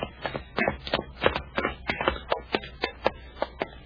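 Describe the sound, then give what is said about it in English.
Footsteps going down stairs: about a dozen muffled, scuffing thuds in a steady, slightly uneven rhythm, moderately loud, with no talking. “I hear the stairs, Happy.”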